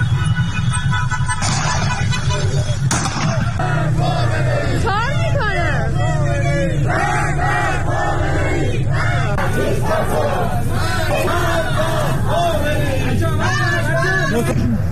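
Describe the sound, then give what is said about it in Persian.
A large protest crowd in Iran chants slogans in unison outdoors at night, rhythmic shouted phrases rising and falling over a constant roar of voices, with a low rumble of traffic beneath. “در اینجا به صداهایی توجه فرمایید که از شهرهای مختلف ایران ارسال شده.”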